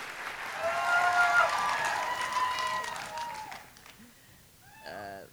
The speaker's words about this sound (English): was met by a standing ovation, an exuberant crowd at the Music Hall in Portsmouth, when she stepped out to read from M Train.